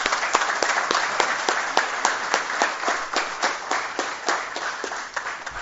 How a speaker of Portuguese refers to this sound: que merece a salva de palmas em nome do prefeito.